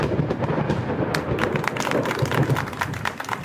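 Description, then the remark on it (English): A loud, sustained crackle of thunder from lightning, with a deep rumble underneath and a rapid series of sharp snaps building through the middle, with no voices. “It's the science of lightning.”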